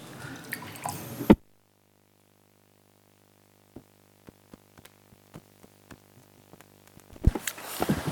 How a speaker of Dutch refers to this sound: Zo, ik moet heel even een glaasje water drinken.